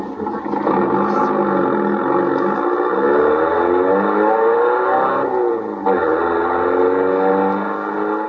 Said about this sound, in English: All right, now get the car started.